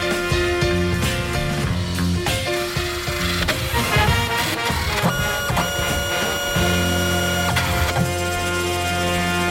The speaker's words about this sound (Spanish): Menuda impresora, amigos. El Rancho del Lobo. 100 viviendas unifamiliares levantadas en algún lugar de Texas con una impresora gigante.